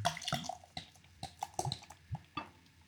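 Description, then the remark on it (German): Craft beer pours into a glass with splashing, gurgling bursts and fizzy crackles, fairly quiet, with no talking. “Gieß mal ein. Ich gebe auch mal ein.”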